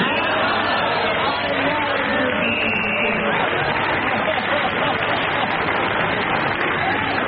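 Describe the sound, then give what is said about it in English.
A large audience claps steadily in sympathy for several seconds, a dense, even wash of applause mixed with crowd murmur and lively reactions, sustained at a consistent loudness throughout. “They were clapping. Clapping in sympathy.”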